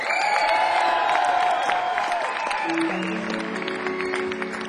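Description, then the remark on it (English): A concert crowd applauds and cheers loudly and steadily for the band's keyboard and rhythm guitar player, with whoops rising out of the dense clapping and a few sustained low tones humming underneath toward the end. “Could you do me a favor and give this gentleman here over an applause who plays the keys and the rhythm guitar”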